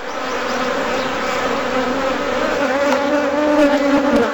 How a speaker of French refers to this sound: qui vous emmènent au cœur de la ruche.